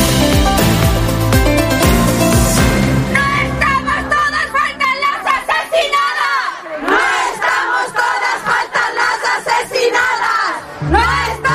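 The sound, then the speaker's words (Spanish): A large protest crowd on 8 March chants the slogan "faltan las asesinadas" (the murdered women are missing) in unison, a loud roaring swell at first, then a steady rhythmic pattern of shouted phrases with brief pauses between them. “Se cantaba, se denunciaba el pasado 8 de marzo con ese grito que faltan las asesinadas, y por desgracia a día de hoy sigue siendo necesario gritarlo, denunciarlo y recordarlo”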